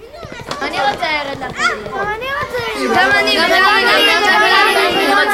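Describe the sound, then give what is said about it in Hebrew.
A crowd of children chattering and shouting, many overlapping high voices growing louder and denser toward the end, as a lengthening procession of children walks through a small town to their teacher. “בצדי הדרך חלונות הבתים נפתחים לרווחה, יהודים מחייכים זה לזה, והנה שיירת הילדים מתארכת. אה, נור אמונה, איזה שמחה בעיירה.”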